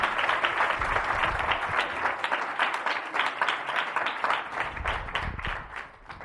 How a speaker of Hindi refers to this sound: कौन कौन खुश है जी आज के कलाम से? यीशु के लिए ना जोरदार तालियां बजाएं।